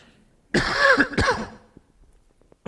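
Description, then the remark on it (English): A loud throat clearing that breaks into a short rough cough, lasting about a second, followed by quiet room tone and the start of another burst at the end. “I made it this far without coughing.”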